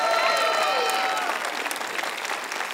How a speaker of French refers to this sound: Oh, applaudissez plus fort que ça, c'est Nouvelle Vie.